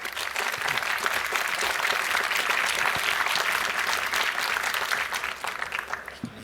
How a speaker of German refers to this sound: Applaus für